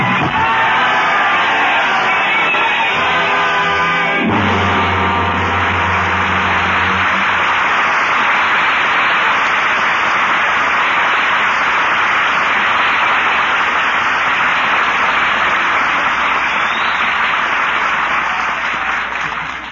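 A large crowd in Paris roars loudly and continuously, a dense wall of cheering, shouting and bellowing voices that holds steady for the whole stretch, with a brief low rumble of deeper yells early on.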